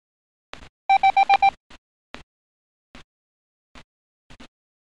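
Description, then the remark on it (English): Five short, evenly spaced beeps of a steady mid-pitched tone in quick succession, the Morse code for the digit five, followed by a few faint, scattered clicks. “That was 5.”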